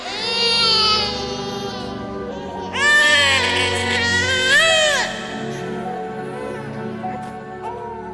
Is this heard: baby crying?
yes